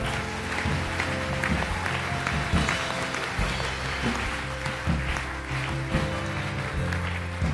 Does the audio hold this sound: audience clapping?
yes